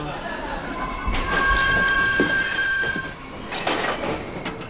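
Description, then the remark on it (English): A train rolls along the rails with a steady, loud rumble, a sustained high metallic wheel squeal rising over it midway, and faint voices murmuring in the background. “10 more minutes on the train and then a 15-minute walk.”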